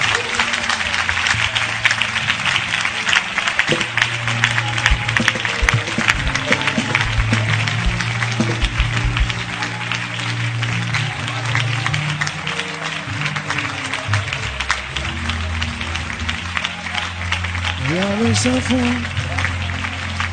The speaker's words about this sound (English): Now, now, clap your hands and pray. Release it.